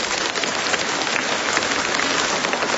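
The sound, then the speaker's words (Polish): A crowd claps steadily for the Holy Trinity parish group from Komarów, a dense crackling wash of many hands that holds at an even, fairly loud level from start to finish, with no voices. “Komarów, parafia świętej Trójcy. Pozdrawiamy, brawa dla Was.”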